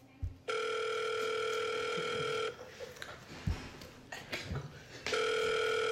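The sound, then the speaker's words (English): A loud, steady electronic telephone ring tone sounds for about two seconds, breaks off into a pause with faint clicks and handling noise, then starts ringing again, as a phone call is placed to a caller. “Firstly, we're going to get our first caller on the phone.”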